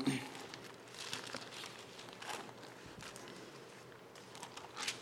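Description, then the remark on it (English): Quiet rustling and crinkling of paper, with several soft sweeping swishes spread across a few seconds, as pages are flipped and handled to find the verse Colossians 3:23, with no voices. “I better turn there, otherwise I won't quote it right.”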